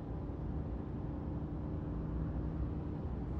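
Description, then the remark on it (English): A steady, dense low rumble of tires rolling over asphalt, constant and unbroken with a faint hiss above it, heard from inside a moving car with no voices. “There's something very comforting and soothing about the sound of the wheels on the asphalt.”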